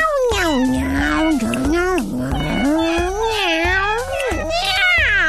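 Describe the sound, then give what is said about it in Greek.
A cat meows continuously in a long, expressive string of drawn-out, wavering cries that rise and fall in pitch, loud, with a low rhythmic backing underneath. “Μα είναι απίστευτο, αλλά καταλαβαίνω τι λέει το γάτι.”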